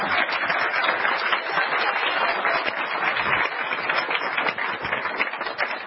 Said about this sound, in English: Let's let the people here in Cold Creek who are holding in the energy today for this channel, let's give them a big applause for everybody online.